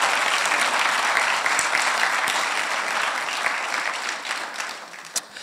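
An audience gives the Lord a clap offering in sustained, dense applause that stays steady and loud, then thins slightly toward the end with a few sharper individual claps standing out.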